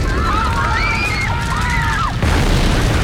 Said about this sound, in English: In the middle of the road, a uniformed policeman on a podium directs cars and bicycles across the intersection. As a car bomb explodes at the intersection, Fowler ducks beneath his table.